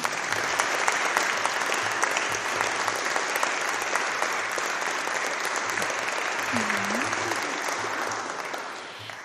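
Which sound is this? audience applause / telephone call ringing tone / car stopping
audience applause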